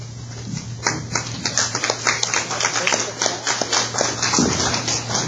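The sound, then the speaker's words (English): Steady applause from the audience at a Story County candidates' debate, following a candidate's statement; many hands clapping in a dense, continuous patter at moderate loudness, with a low constant hum running underneath throughout. “Okay, folks, in the interest of time, if you could hold your applause until the end of the debate.”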